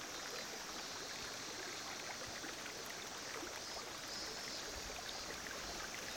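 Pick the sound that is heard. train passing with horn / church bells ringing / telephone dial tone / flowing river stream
flowing river stream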